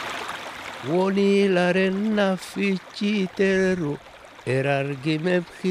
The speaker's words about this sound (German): singt …, ein traditionelles Lied der Nubier in Oberägypten